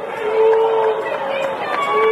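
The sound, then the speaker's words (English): A large crowd of fans boos loudly and steadily at the mention of the Marquee Network, a sustained wall of low, droning voices that swells slightly and holds for a couple of seconds. “Believe me, you won't be booing about that in a year.”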